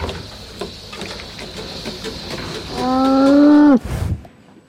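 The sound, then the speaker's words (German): A cow in a robotic milking barn, where a milking robot milks the cow, lets out one long, loud moo near the end, rising over a steady mechanical hum and faint clanking of barn machinery, with a soft thud after. “Renate kam in den Roboterstall. Der Melkroboter melkt die Kuh.”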